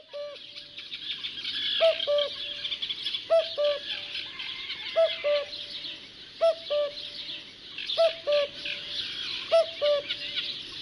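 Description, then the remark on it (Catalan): A common cuckoo repeats its two-note cuckoo call about every second and a half, clear, over a busy background of other birds chirping and singing. “El primer que hem sentit era un cucut que feia aquest cucú.”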